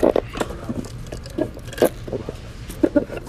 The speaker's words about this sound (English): Let me get one more sip of Dave's cream soda here.